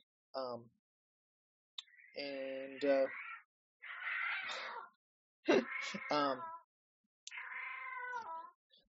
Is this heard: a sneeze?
no